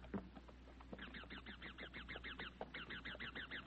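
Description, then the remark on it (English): Wild parrots screech overhead above a forest of bamboo and giant tree ferns in a rapid, rhythmic series of harsh, squawking calls that start after a moment and continue steadily, fairly loud with no talking. “Overhead, wild parrots screeched.”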